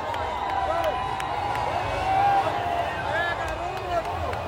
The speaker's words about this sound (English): I'm standing near the military fort at the end of Copacabana Beach in a sea of yellow and green. Bolsonaro supporters who have broken through the barriers to get closer to the president. Now they're shouting, Lula, thief, your place is in prison.